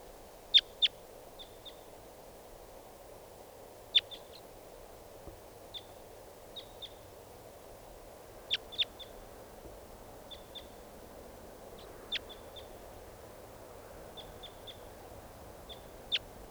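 A captured wild bird repeatedly calls with short, sharp, high-pitched notes, often in quick doubled or tripled bursts, spaced irregularly over a low steady background hiss; no talking.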